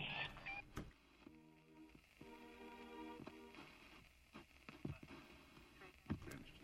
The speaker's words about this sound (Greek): Αυτό το ραδιάκι που ακούτε ήταν από το αμάξι των δημιουργών. Το ηχογράφησαν, λέει, εκεί.